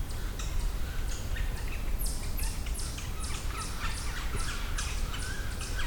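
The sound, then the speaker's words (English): Yellow-bellied sapsuckers give a steady series of harsh, downward-slurred mewing calls, about a dozen in quick succession from at least two birds, loud against a low outdoor rumble. “Got some yellow-bellied sapsuckers here. At least a couple of them.”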